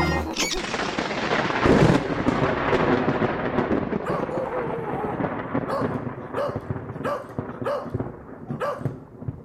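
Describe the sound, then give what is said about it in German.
A dog barks in a rapid series of sharp yaps over the heavy, continuous rumble of a thunderstorm, the barking growing more insistent toward the end. “Bei diesem Wetter würde man keinen Hund vor die Tür jagen. Ein kluger Hund bellt nicht ohne Grund.”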